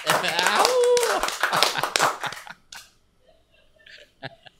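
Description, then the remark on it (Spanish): A quick, loud burst of hand clapping mixed with voices and laughter for a couple of seconds, then a near-silent stretch with a few light taps and faint murmurs. “Yo no entiendo por qué no te gusta que uno aplauda, muchacho marico.”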